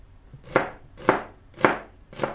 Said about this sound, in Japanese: 玉ねぎとトマトとピーマン使います。 おで玉ねぎを、 まず玉ねぎは薄切り。 こっちか。